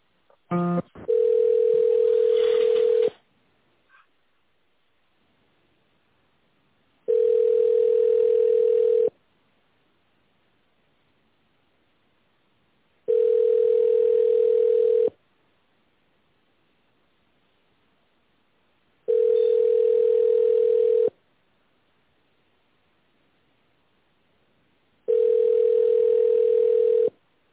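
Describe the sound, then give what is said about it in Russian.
A telephone ringback tone plays while a call to the company Avanta is transferred to its tender department: five long, steady mid-pitched tones, each about two seconds, separated by evenly spaced silences, with no voices. “Сейчас, секунду, переключу на тендерный отдел.”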